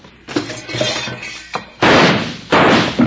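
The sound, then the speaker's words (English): Two loud, sharp gunshots from a bushwhacker shooting at two men ring out less than a second apart, each with a brief echoing decay, following a stretch of scattered clattering and rustling noise. “Bill, now who in the heck is shooting at us and why?”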